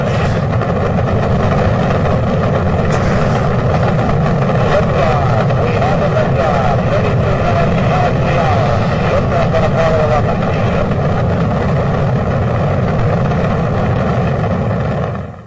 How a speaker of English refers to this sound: You know, let's take a listen to the audio clip of that actual liftoff.